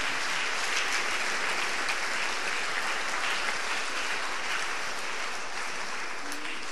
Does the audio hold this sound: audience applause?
yes